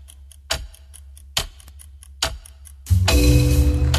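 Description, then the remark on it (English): A chess clock ticks steadily and quickly, punctuated by three sharper, louder clacks a second apart, before a dense, loud wash of sound swells in and covers it. “Chess is cool, like super cool. Start your clock.”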